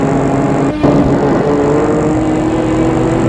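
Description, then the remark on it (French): A car engine hums steadily and fairly loud as the vehicle drives along in fine weather with little traffic, with a brief bump or thud near the start and no voices. “Il part en voiture.”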